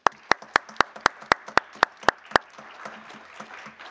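About ten sharp, evenly spaced claps ring out in a steady rhythm, then give way to a softer, scattered patter of clapping from a group, with no voices; applause at a TGE-COM session meeting for the outgoing chair's work during the past year.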